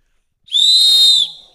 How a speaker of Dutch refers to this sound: Maar dit fluitje is in ieder geval terecht.